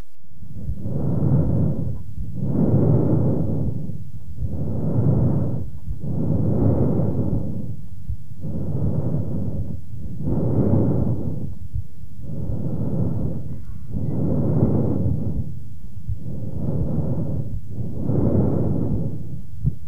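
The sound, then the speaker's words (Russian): Harsh, hollow laryngotracheal breath sounds recorded over the thyroid cartilage of the larynx, about eleven steady cycles of loud rushing inhalation and exhalation with brief pauses between them, and no talking. “Прослушайте ларинготрахеальное дыхание, зарегистрированное в области щитовидного хряща гортани.”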